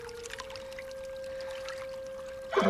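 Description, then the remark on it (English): Water trickles and sloshes softly as a person scoops it from a rock crevice with both cupped hands to offer to a colt, over a steady faint tone, ending in a louder splash in the final moments. No one speaks. “She climbs down closer to the crevice and reaches in with both hands. Cupping the water, she faces the colt.”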